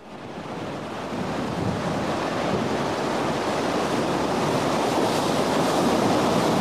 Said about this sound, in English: I have a video of a fishing boat caught in a storm with really huge waves.